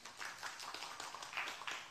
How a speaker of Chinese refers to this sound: 阿们的拍手吧，让他归给神。